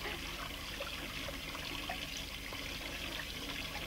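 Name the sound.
running water splashing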